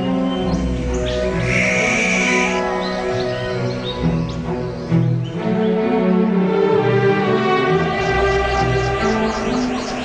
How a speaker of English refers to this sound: Birds communicate through cries, songs, and body language. They employ a variety of sounds to communicate with other members of the flock, neighbors, or family members.